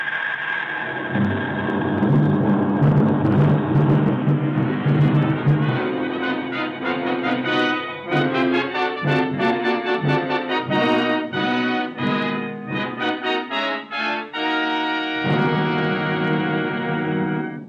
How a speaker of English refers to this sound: Japanese planes are bombing Pearl Harbor. What? Listen, you can hear the bombs exploding.